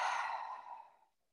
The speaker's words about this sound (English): Let's take a nice deep breath, breathing in and out.